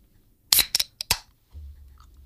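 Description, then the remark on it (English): A Red Bull energy drink can cracks open: a cluster of sharp metallic clicks and a brief fizzing hiss, followed by a faint low rumble with no talking. “The crack sounded so nice in my headphones.”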